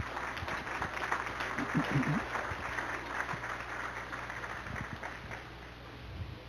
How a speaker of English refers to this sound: so if we could give them a round of applause.